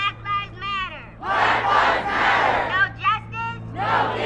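A crowd chants in rhythmic call and response: a single high young voice shouts short lines, and a loud surge of many voices answers in unison, repeated several times over a steady low hum.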